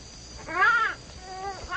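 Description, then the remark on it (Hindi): A tiger roars in a few drawn-out, rising and falling snarls, fairly loud, with a short pause between them and the last one cut off at the end. “तनी देर में वो एक बाघ के आवाज सुने है। वो बाघ बहुत गर्जे है”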